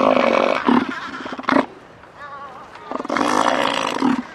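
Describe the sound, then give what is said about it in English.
A very big elephant seal of about 1,500 pounds, the length of a small car, hauled out on the rocky beach of a very small island off the west coast of Antarctica, bellows in two loud, rough-throated roaring bouts, each a pulsing, guttural blast, separated by a brief lull of quieter rumbling. “Just off the west coast of Antarctica, a very big elephant seal is hauled out on a very small island.”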